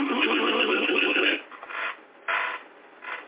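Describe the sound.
A voice imitates a jackhammer, the tool used to tear up concrete, with a harsh, raspy rattling burst held for over a second, followed by a few shorter, quieter noisy bursts with gaps between them.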